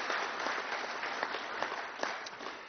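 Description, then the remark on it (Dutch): An audience applauds steadily in thanks to the woman who led the operation, a dense wash of many hands clapping at an even level with scattered sharper claps standing out, and no voices over it. “Nog 1 applaus voor”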